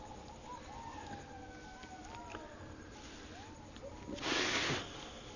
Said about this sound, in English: then these water birds, and they start making noise. Like that. It's funny. Great. Like in the middle of the yeah, like out in the middle of the jungle, yeah. These ones especially, they're like something straight out of Africa. Yeah. These birds.